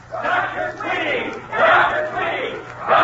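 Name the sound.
crowd cheering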